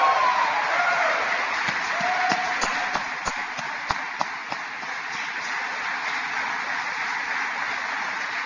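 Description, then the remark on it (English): A large crowd in Michigan applauds for the company American Axle, steadily, a dense continuous wash of clapping that stays strong throughout, with a few sharper individual claps standing out near the middle. “Let's give American Axle a great big round of applause.”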